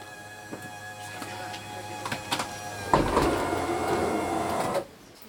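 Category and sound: vehicle, bus doors opening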